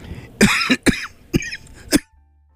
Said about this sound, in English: Pardon me. Had a coughing jag there.